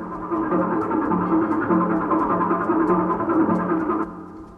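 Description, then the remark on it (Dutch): A washing machine runs with a steady churning hum for about four seconds, fairly loud, then quickly dies down, used to demonstrate washing with Lari detergent. No one speaks. “Ik zal je het eens voordoen in de wasmachine.”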